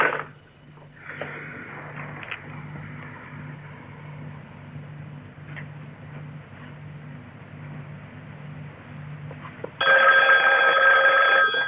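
A telephone rings over and over in a steady, repeating pattern with a faint hum beneath, then a sudden louder burst of hissy noise cuts in near the end. No one speaks.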